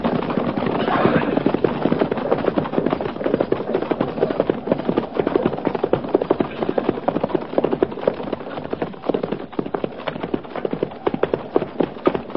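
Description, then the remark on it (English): A single rider's horse gallops steadily as it approaches, its hoofbeats a rapid, unbroken drumming that stays loud for the whole stretch, with no voices over it. “Captain, single rider approaching.”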